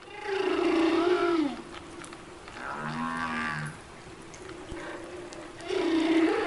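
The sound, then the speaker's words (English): Humpback whale song: long, mournful moans and a wavering higher call with a low groan beneath, repeated slowly over a steady underwater hiss, with no talking. “Prior to that, it was believed that humpback whales almost exclusively would sing when they're in their tropical breeding grounds in the winter.”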